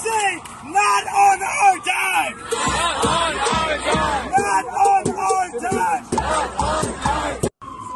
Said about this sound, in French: Donc voilà, donc c'est une manifestation.